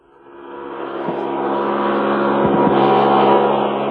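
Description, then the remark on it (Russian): A human centrifuge, a powerful machine driving a steel beam with a cosmonaut's cabin at one end, spins up, its low mechanical roar swelling steadily louder over a few seconds with a few faint clunks, no voices present. “Следующий эксперимент – центрифуга.”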